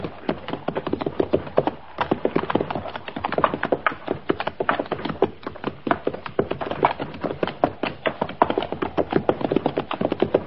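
animal, horse hooves clip-clopping

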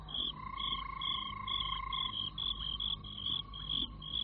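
animal, frogs croaking at night

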